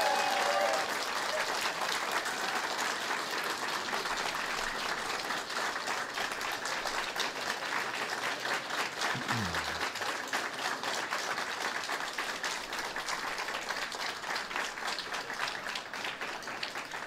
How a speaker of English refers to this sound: Could you give a little applause for Frank Chopp for his great work?